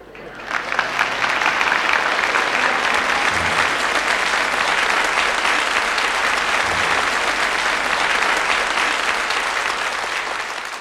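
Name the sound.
audience applause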